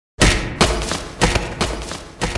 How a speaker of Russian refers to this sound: жестким ударом отправляет его обратно на землю.